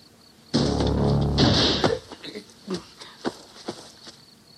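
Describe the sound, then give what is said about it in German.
A door swings with a loud, drawn-out creaking squeal lasting over a second, followed by a scatter of softer knocks and clunks as it settles shut. No one speaks. “Diese lächerlichen Türen sollte man dem Schreiner um die Ohren schlagen.”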